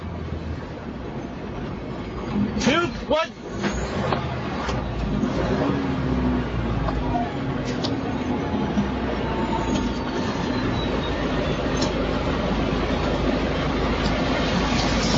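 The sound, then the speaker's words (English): Steady, loud roar of highway traffic with heavy engine rumble, a large vehicle sweeping past early on, then continuous road noise from passing cars and trucks; from a video of an American truck driver stopping a wrong-way driver on a highway. “Sean Duffy, in clip 4, released this video of a American truck driver stopping a foreigner who's driving the wrong way on a highway.”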